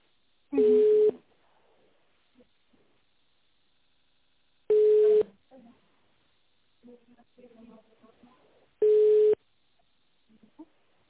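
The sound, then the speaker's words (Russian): A telephone busy signal during a phone call, because the line being called is engaged: three loud, steady beeps at even intervals a few seconds apart, with faint muffled background sounds in the quiet gaps between them. “там, к сожалению, занят телефончик.”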